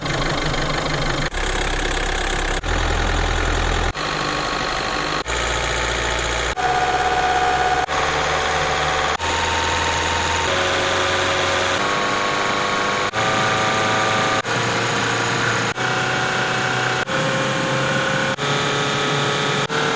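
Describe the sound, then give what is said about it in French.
A BMW M3 convertible's 400-horsepower engine idles with a deep, throaty low rumble and a steady burble that shifts slightly in pitch every second or so. No one speaks. “En M3, ça c'est un M3, donc c'est du BAMO 400 chevaux quoi, un cabriolet, c'est magnifique”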